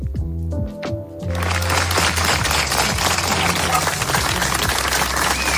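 A short run of bright musical tones opens, then a loud, dense ovation of many hands clapping takes over and continues steadily to the end.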